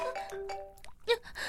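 A mobile phone rings with a bright, melodic chiming tone, a few sustained notes followed by louder, buzzier bursts, with no one talking over it.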